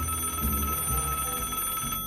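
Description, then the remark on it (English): A telephone in an 18-room duplex apartment rings steadily with a bright, bell-like electronic tone, sustained for about two seconds at moderate volume, with no voices present. “The phone rings, and he picks it up.”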